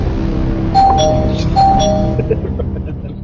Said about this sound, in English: Spoiler bell again, please.